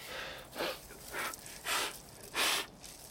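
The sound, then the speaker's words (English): A newborn heifer calf, just delivered with its cord still intact, snorts and gasps through its first breaths as it clears its lungs, four short, breathy bursts at uneven intervals, fairly soft, with no talking. “It's just clear its lungs. Yeah, the cord's still intact. It's a heifer. Okay, just get the guns out. That's it. Now let's get you breathing.”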